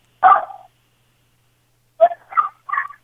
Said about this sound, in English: Oh, can you tell that dog to shut up?